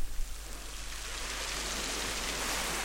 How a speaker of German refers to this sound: Achte auf deinen Atem. Bei jedem Atemzug hörst du eine Welle des Meeres. Zwischen den Atemzügen ist Stille, ruhig, lebendig, klar.